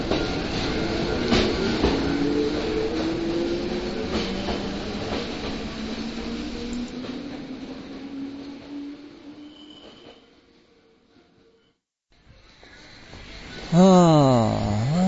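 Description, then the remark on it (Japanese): A train at a small railway station rumbles and clatters steadily with rising mechanical tones, then fades to near silence before a loud wavering whine or horn-like tone swells at the end. “相変わらず何にもない駅ですねここは本当に、本当に確定しか止まらないですね。”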